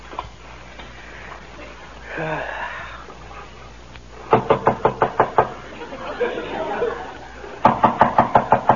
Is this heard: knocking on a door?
yes